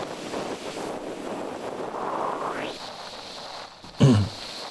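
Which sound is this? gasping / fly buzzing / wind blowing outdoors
wind blowing outdoors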